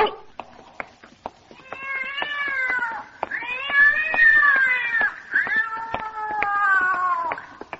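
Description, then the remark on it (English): A big cat up on packing boxes caterwauls in three long, drawn-out yowls that rise and fall in pitch, loud, with faint clicks and crackle in the background between the wails. “Great Scott, what a big cat.”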